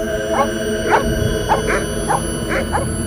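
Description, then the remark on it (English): A family's two dogs in a car bark excitedly, going into a frenzy in quick, uneven bursts, about seven yelps in three seconds, over a steady background hum with faint high-pitched tones. “A high-pitched whirring noise pierced their ears as their two dogs went into a frenzy.”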